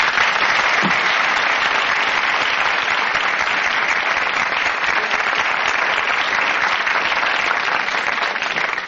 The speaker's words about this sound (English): Ladies and gentlemen, a nice warm round of applause for our next guest, a lady who wrote this book, A Doctor Discusses Living, Dr. Catherine Watkins.